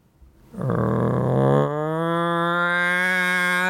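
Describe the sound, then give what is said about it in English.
A local town's alarm siren in South Dakota, sounding every morning at 7 a.m. for about 5 minutes to wake everyone up, starts after a brief pause. It climbs slightly in pitch and then holds a loud, steady, buzzy tone rich in overtones. “The local town, has an alarm to wake everyone up.”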